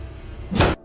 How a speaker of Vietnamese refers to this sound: Thế rồi cánh cửa lớn phòng ngủ bật tung ra.